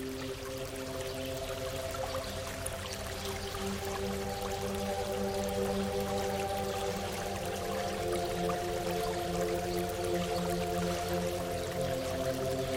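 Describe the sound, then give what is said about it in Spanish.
A small stream of clear water flows steadily over stones beneath a small stone bridge, a continuous gurgling and trickling wash that stays even throughout, with no voices. “Desde el puente observas el agua correr, sorteando algunas piedras.”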